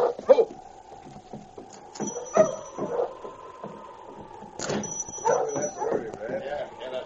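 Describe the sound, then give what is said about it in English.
A sled dog team arriving in town barks and yips in rapid, overlapping bursts, fairly loud, with a steady hum running underneath and voices calling out "Hold there! Whoa!" amid the noise. “For instance, when he arrived in town with a dog team... Hold there! Whoa!”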